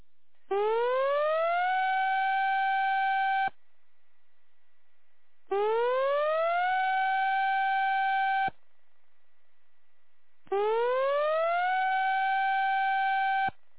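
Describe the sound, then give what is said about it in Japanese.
A tsunami warning siren in Yura town, Japan, sounds three times in a drill broadcast for a major tsunami warning. Each blast rises steeply in pitch, then holds a loud, steady wail for a few seconds before cutting off, with short silent gaps between. “大津波警報、大津波警報。”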